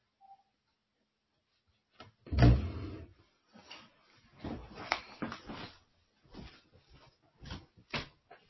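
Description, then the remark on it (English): A door shuts with a solid, heavy thump, followed by several seconds of lighter knocks, clicks and handling rustles. No one speaks. “I'm sorry, I just had to close a door there.”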